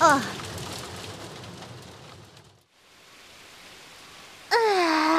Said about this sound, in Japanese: 通り雨みたいですし、おそらくすぐ止むと思いますよ。